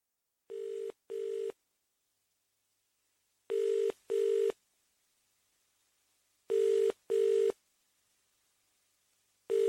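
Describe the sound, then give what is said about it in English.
A telephone ringing tone sounds in three paired bursts, a steady double buzz then a pause, repeating evenly and clearly with no voices, like a call waiting to be answered on the line. “I'll get off now then and I can phone her as soon as she gets home.”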